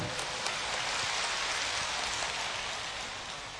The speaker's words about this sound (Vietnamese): A Di Đà Phật, xin tràng vỗ tay thật lớn.